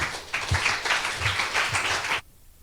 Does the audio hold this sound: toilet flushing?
no